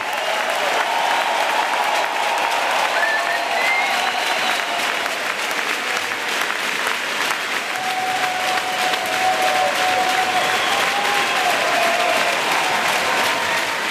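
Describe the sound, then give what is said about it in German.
A large crowd in an ice hockey arena applauds and cheers continuously for minutes, honouring player Andres Ambühl after a short film of his milestones, dense clapping filling the big arena, with occasional whistles and shouts rising above the steady roar. “Nach einem kurzen Film mit den wichtigsten Nazi-Meilensteinen vom Bündner ist der Andres Ambühl geehrt und vom Publikum minutenlang gefeiert worden.”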